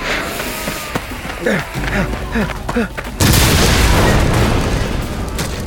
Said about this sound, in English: Jesus, boss. Maybe you shouldn't have used so much dynamite.